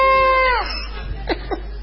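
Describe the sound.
An architect leading a "trencito" line as its locomotive mimics a train whistle: one long, steady hooting tone that sags downward at the end, then two short, quick toots, all fairly loud with no other talk.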